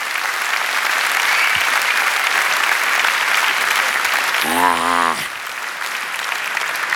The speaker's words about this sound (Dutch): Een applaus